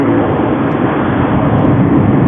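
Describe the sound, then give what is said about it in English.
A loud, steady roar of traffic on Highway 90, heard outside a store at a racetrack, fills the whole stretch, a dense, unbroken rumble of passing vehicles with no voices over it. “So loud out there. I can barely hear you.”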